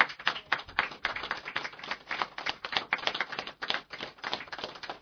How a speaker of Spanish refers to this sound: Y un fuerte aplauso a todas y a todos, otro día más aquí en Radio Tarumba.